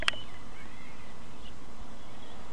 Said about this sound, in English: The birds aren't being as exciting now, so I think... Oh, yeah, they are.